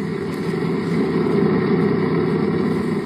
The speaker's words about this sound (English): One engine looks all right, but it doesn't sound so good. For the past few days, the engines haven't been working so well.